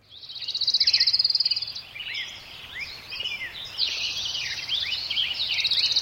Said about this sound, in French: Voici le bruissement ordinaire et familier auquel il nous faudra bientôt renoncer. Oublier le bruit des oiseaux, oublier les insectes aussi, et toute une partie de la nature condamnée à brève échéance par l'humanité.